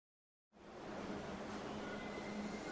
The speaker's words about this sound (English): Hi, I'm at the subway station.